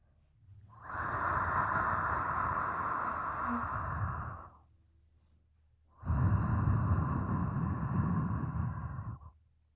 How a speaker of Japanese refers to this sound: 熱い吐息、感じますか？もっと私を感じてください。